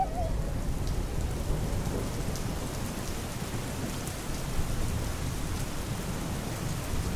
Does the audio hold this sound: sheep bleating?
no